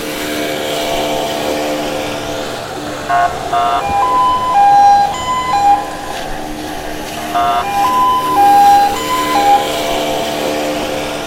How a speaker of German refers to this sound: Ein lautes Wusch und das Heulen von Polizeisirenen holte mich aus meinen Träumen.